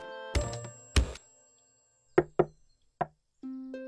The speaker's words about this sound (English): That wasn't the secret knock.